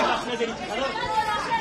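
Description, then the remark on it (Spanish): A crowd jeers and shouts over one another in a steady, dense roar of overlapping voices, with no single speaker standing out and the noise holding loud throughout. “Decía cómo escuchas entre abucheos, entre gritos, vuelta a España.”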